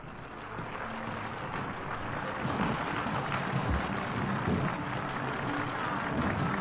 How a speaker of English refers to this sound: Miklos Rozsa acknowledges the applause of the audience, turns to the orchestra, and we're ready for the first work on tonight's edition of Symphonies Under the Stars.